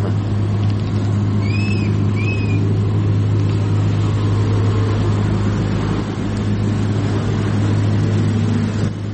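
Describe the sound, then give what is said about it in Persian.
A truck with Russian number plates, driven by a Tajik driver stuck at the Uzbekistan border and carrying food products, idles steadily with a deep, constant hum and broad rumble, fairly loud throughout; a couple of brief high chirps sound faintly early on. No one speaks. “نوار این راننده را با هم ببینیم. ماشین نمره روسیه.”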